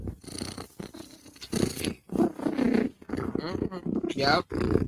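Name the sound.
cat purring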